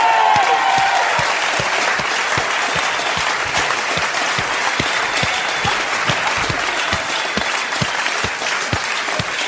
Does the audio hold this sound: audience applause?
yes